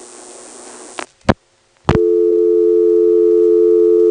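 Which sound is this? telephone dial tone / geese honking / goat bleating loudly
telephone dial tone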